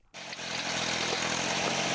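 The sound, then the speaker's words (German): An open-source earth brick press machine called Liberator, from the Open Source Ecology project, starts up abruptly and runs loud: a steady droning engine roar with a buzzing, vibrating rattle throughout as its hopper vibrates, a flap slides back and a brown block of pressed earth rolls out. No voices. “Der Trichter vibriert, eine Klappe schiebt sich nach hinten, dann kullert ein brauner Klotz heraus.”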